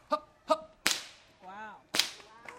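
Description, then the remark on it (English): A performer at a fair cracks a whip twice before an audience, each snap sharp and loud, with brief voiced calls before and between the cracks and a rising-falling vocal sound in the gap. “Well, audience, if you'd like to see the whip, sure, let me hear you say, wee wee.”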